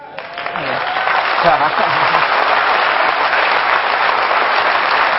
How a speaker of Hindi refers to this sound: भले ताली कम बजाना, हाँ देखा, आप सबको ताली बजाने के लिए सिखाया गया है ना, हाँ, ताली कम बजाना।